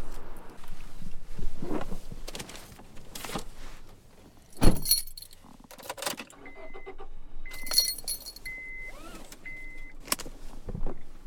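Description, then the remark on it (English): Keys jangle and a car door shuts with a solid thump, followed by shuffling as someone settles into the seat and a series of short electronic chimes from the car. “Okay, I'm going to get in the car.”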